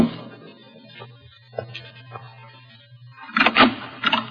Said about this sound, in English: Around 7 o'clock, there was a knock at my door.